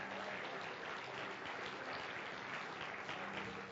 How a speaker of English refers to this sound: Would you give God a great big clap offering this morning? Come on, give Him a great big clap offering this morning. Hallelujah. Hallelujah.